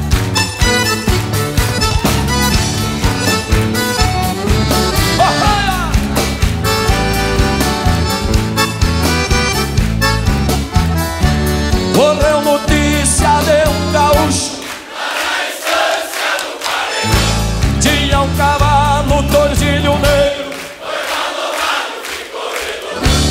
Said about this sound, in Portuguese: E no ritmo da canção, as palmas, vamos ver. Bem forte, vamos ver.